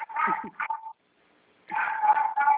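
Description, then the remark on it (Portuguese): A neighbour's small dog barks shrilly in two quick flurries of high-pitched yaps, separated by a short silence, fairly loud with no talking over it. “É o cachorro.”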